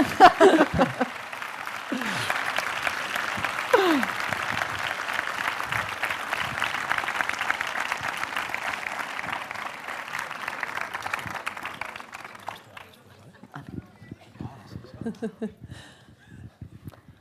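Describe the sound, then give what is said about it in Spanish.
Sustained applause from an audience at an award ceremony as a prize winner is called up, a dense steady clatter of many hands lasting about twelve seconds before thinning out, with a few voices and scattered claps after it fades. “Podéis seguir aplaudiendo.”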